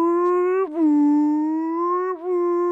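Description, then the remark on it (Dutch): A voice imitates the outdoor warning siren of the Dutch warning system, tested on Monday 2 December around 12 o'clock: a loud, sustained, steady tone held for nearly three seconds, with two brief dips in pitch before it swells back up. “Vandaag op deze maandag 2 december... rond 12 uur wordt het waarschuwingssysteem getest.”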